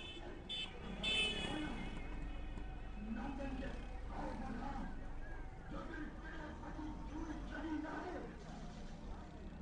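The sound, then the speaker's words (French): Steady motorway traffic resumes at a toll booth, engines droning continuously with a brief horn-like tone early on, while indistinct voices murmur underneath the busy traffic noise. “Désormais, la circulation a repris, mais à Karachi, la grande mégalopole du Sud, on est encore sous le choc.”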